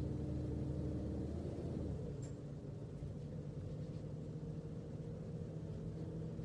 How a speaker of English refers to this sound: Oh, opa, okay. You feel the bus shaking a little bit, eh?